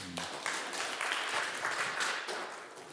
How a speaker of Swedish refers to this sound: Ska hon få en liten applåd?